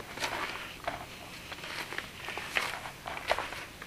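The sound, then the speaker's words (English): Footsteps crunching through snow as someone walks around to the front of a house through a gate, in a steady walking rhythm, each step a soft, gritty crunch, with about six or seven steps heard at a moderate level and no talking. “As we walk around to the front of the house through a gate, you can just hear that typical crunch, crunch, crunch as you walk on snow.”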